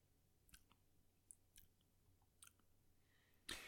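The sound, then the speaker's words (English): Quiet mouth sounds: a few soft wet clicks and lip smacks, then a short airy slurp near the end as someone sips a grapefruit drink. No one speaks. “I guess I'll take a sip.”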